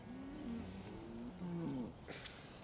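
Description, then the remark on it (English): A dairy cow in a barn, eating silage, gives a long, low moo lasting nearly two seconds, fairly loud, followed by a short rustle of feed. “greedy old Ellie tucking into her silage”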